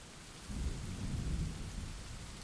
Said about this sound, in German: Ein weiteres Beispiel für diese Geräusche ist Regen.